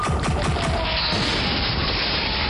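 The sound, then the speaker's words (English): A voice-activated laser cannon fires in a rapid burst of loud, crackling blasts that dissolve into a sustained, harsh roaring crash, with no voices. “Nice work with the voice-activated laser cannon, Hellfast.”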